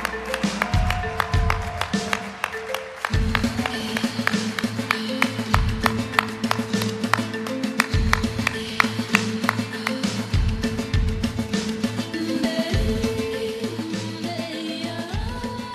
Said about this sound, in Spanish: Ella es Estrella Araiza Briceño y, por supuesto, a nuestra homenajeada, la cineasta Maite Alberdi, para quien pido un fuerte, muy fuerte aplauso.